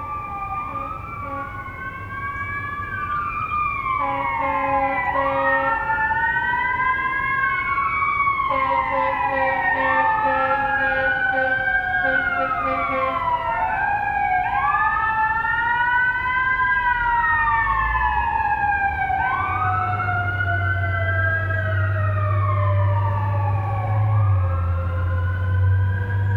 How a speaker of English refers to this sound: In a minute, I'll show you another recording of fire trucks, or at least one fire truck, that I most definitely did not expect.